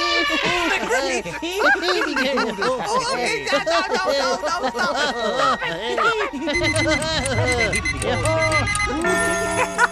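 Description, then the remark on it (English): Alarms ring out loudly throughout Ireland in the second half, steady electronic tones with rapid clicking pulses, following a stretch of busy, high-pitched laughing and chattering voices. “Right now, alarms are ringing throughout the country.”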